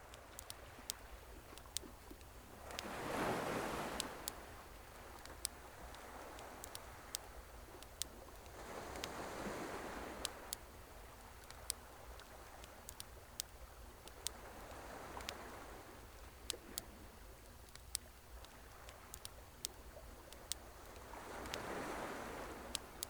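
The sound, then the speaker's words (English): Gentle sea waves roll in every few seconds, each swelling and receding, while a steady scatter of sharp pops, crackles and hiss from a bonfire ticks along at night. No one speaks. “The blending sounds of the sea and the hiss and crackle from the bonfire are calming.”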